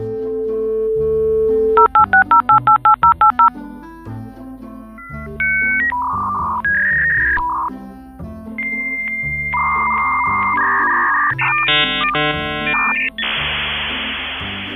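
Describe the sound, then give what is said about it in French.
A 2400-baud dial-up modem in a house dials with a quick run of touch-tone beeps, then launches into its connection handshake of shifting tones, warbles and buzzy screeches ending in a hiss of static, loud, with no voices. “Je venais à peine de lâcher le modem 2400 baud dans la maison qui me donnait une vitesse de 9600 bits à la seconde.”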